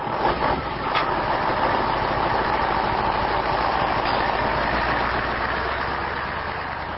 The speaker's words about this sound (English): While diplomats negotiate on the other side of the world, the heavy trucks continue to arrive under the desert sun at Asalaya camp outside Doha. The trucks are supplying the U.S. Central Command's forward headquarters